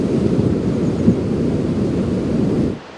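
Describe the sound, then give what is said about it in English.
Boulders tumble beneath swift river water in a deep, continuous rumbling roar, steady and loud, with one brief knock partway through before the sound cuts off near the end. “The park is quiet, except for the river roaring below us, the chanting of sadhus, Hindu holy men, who come to worship here for months at a time, and the eerie sound of boulders tumbling under the swift-moving water.”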